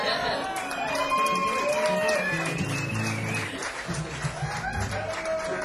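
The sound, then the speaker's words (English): An audience applauds steadily for several seconds, a dense crackle of many hands, with cheering and whooping voices rising and falling above it. “Yeah, it's okay to clap.”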